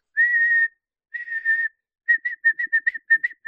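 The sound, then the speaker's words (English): Someone mimics a whistle with their mouth: two long, steady high-pitched tones followed by a quick run of about ten short, chirpy blasts, fairly loud with no talking. “Like someone whistling a whistle comes up behind me.”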